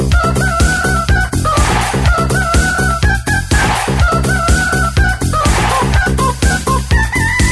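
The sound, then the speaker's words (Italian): A rooster crows loudly and repeatedly over a busy, continuous background of clucking fowl, filling the whole stretch with dense barnyard noise and no one speaking. “Il gallo, poi mi raccomando, essere più chiari”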